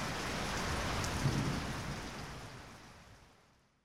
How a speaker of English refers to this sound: Oh, sugar. It's starting to rain.